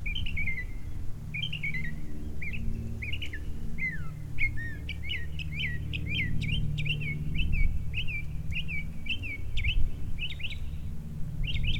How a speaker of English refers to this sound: But here, listen, this is one bird, by the way. This is one bird. This is not multiple birds. This is one bird mimicking all the other birds that he has heard throughout his life.